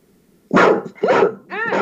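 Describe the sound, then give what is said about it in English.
A dog barks three times in quick succession, loud, each bark a sharp, full burst with a slightly whiny, rising edge on the last one. No one speaks. “The wind blows and my door creaks and then, you know, the younger dog is like, oh my god!”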